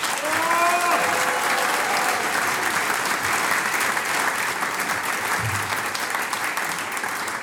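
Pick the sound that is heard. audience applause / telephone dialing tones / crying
audience applause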